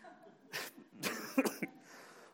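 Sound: cough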